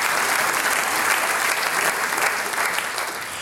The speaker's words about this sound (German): Applaus für die ….